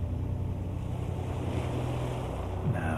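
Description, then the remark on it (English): Ocean surf washes onto a beach in a steady, unbroken roar of hissing water, with a soft low drone humming beneath and no voices. “You will be more relaxed than you have ever been before because you are on the beach.”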